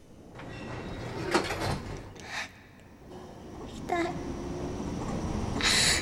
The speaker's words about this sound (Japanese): ドア閉まります、ご注意ください。